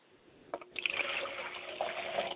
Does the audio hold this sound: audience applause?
no